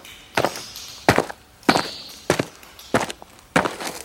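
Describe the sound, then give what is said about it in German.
Six slow, deliberate footsteps at an even, unhurried pace, each a soft scuffing thud, with quiet pauses between them and no voices; someone walking cautiously out of a cave. “schlich dann Timmy hinterher, der die Trollhöhle vorsichtigen Schrittes verließ”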